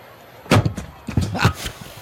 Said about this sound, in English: It hit right on the mic, knocked the mic over, and I got a baseball in my hands.